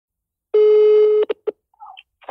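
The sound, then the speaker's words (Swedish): A steady electronic telephone tone holds for under a second, then a few quick dialing beeps follow, trailed by faint line noises, as a call is placed to LO, the owner of Aftonbladet. The tones are clear, with no voices. “Jag lyckas i alla fall inte med det, så jag ringer till Aftonbladets ägare, LO, istället.”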